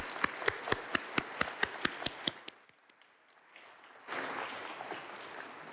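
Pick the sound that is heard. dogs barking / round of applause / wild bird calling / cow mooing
round of applause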